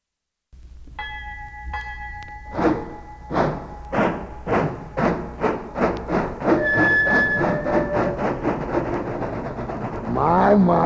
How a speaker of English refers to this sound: My. Listen to that rhythm train, boy. Boy, I bet all them hobos are all set under them rods.